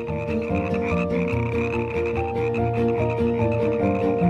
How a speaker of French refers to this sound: Donc, au lieu de 60, vous êtes prié de brider le chant de vos grenouilles à 30 décibels.